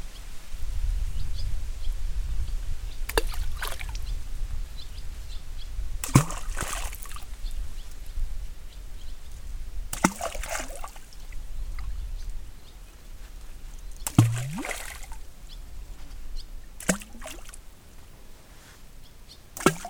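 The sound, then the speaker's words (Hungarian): Stones thrown into a quarry lake from its shore drop into the water in a slow, irregular series of about six sharp splashes and plops, some with a brief falling gurgle, over a steady low rustle and rumble of wind and of reeds nearby. “Szerintem most nem sokára következnek a kövek a vízbe.”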